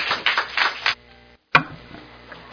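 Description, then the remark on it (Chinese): A short burst of applause from a live audience welcoming guests at a talk. Many hands clap at once for about a second before it cuts off, leaving quiet and one sharp knock. “啊，请咱线上的朋友，还有咱现场的朋友，先让咱互相掌声欢迎。”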